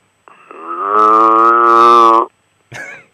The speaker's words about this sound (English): Your neighbors have, on both sides, they have cows.